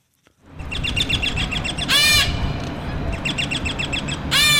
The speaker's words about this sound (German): Sie hören verschiedene Sittigarten aus Südamerika und Südostasien. Sie leben in einer großen Freiluftvoliere in Charlottenburg, gleich neben dem Kurfürstendamm.